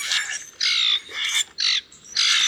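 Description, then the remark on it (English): Harsh, raspy common grackle calls repeat in a rapid, uneven series of about five loud squawks, clear with no talking, grating and scratchy like a creaky hinge. “The ones that some people prefer to shoo away, like the common grackle.”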